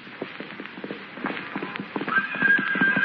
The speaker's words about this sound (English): Suddenly, he hears the sound of galloping hoofs.